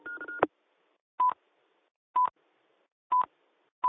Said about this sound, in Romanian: Roger, Roger, au mai fost 5 bipuri aici, nu știu ce probleme sunt, dar totul este ok, n-am putut interveni cu microfonul, uite, acum merge.